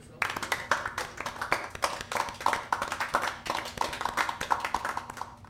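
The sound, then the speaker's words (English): A comedy club audience at the Twisted Swastika applauds steadily for several seconds for a newly introduced stand-up act, Adolfo, a dense patter of many overlapping hand claps at a fairly loud, even level, with no one talking over it. “Applaud!”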